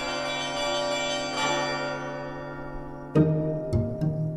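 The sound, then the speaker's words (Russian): A genuine ship's bell (rynda), hung in a church bell tower and rung by a long rope tied to its clapper, rings out with a few sharp strikes, each leaving a rich, lingering metallic hum that carries between blows, with no voices. “Подняли ее на колокольню, укрепили, к языку длинную веревку привязали и давай звонить.”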